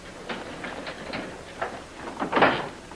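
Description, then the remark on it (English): A door is opened for a visitor, with a series of soft clicks and rattles from the latch followed by a louder, fuller clunk as it swings open, with no talking. “would you get the door for me?”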